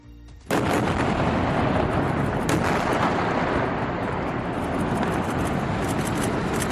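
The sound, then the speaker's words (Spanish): A sudden, loud blast erupts after a brief quiet moment and rolls into a sustained, heavy roar of crumbling debris, with sharp cracks scattered through the rumble as a building comes down after an Israeli army attack. The building housed offices of international news media and had been evacuated hours earlier. “Este era el momento de la explosión y del posterior derrumbamiento de ese edificio que había sido evacuado horas antes tras haber avisado Israel.”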